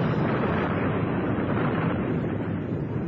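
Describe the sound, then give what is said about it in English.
A volcanic eruption, with lava flaming and bubbling and erupting at the side, roars loudly and steadily, a dense, unbroken rumble with no separate blasts standing out and no voices. “You see the way the lava is flaming and bubbling? It's likely to explode any second. We are lucky. It's erupting at the side.”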